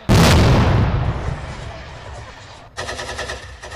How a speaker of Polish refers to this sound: Podczas pokonywania terenu żołnierze zostają zaatakowani, ostrzelani i obrzucani granatami.